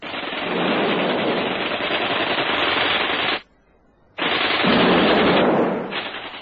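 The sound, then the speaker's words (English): Loud, continuous bursts of rapid gunfire as Rosita fires wildly with a gun and Davy flings hand grenades while running out of a front door, a dense roaring rattle that runs for about three seconds, cuts off briefly, then resumes just as heavily to the end. No voices. “Davy and Rosita ran out of the front door at once, he flinging hand grenades, and she firing wildly with a gun.”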